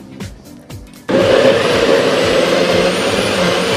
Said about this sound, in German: Das mixet. Und uns kommt ein grünes Smoothie. Grün ist er auch, genau. Grün ist er.